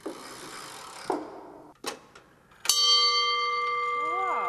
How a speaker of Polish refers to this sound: Wow. Ten, który akurat właśnie posiada funkcję budzenia. No to na pewno obudziłby, bo to jest dosyć mocny dzwon.